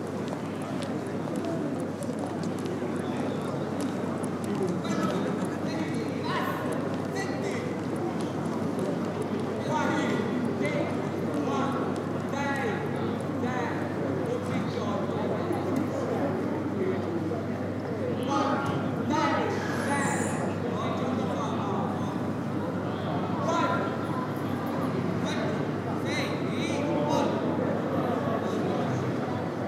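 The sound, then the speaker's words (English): A group of youngsters in a square shouting out numbers, seemingly as some sort of game, their overlapping voices rising and falling steadily for the whole stretch, with occasional tapping and scattered bird calls underneath. “A group of youngsters shouts numbers. It looks like some sort of a game.”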